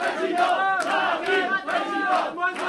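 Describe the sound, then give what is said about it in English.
A crowd of supporters cheers and chants together in loud, rhythmic swells, many voices rising and falling in unison with pulsing shouts, no single speaker standing out, welcoming Marine Le Pen at a campaign rally in the municipal hall in the town of Hénin-Beaumont. “Supporters warmly welcome Marine Le Pen at the municipal hall in the town of Hénin-Beaumont.”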